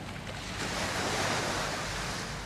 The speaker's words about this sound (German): Welle für Welle trifft auf den Strand von Pemba.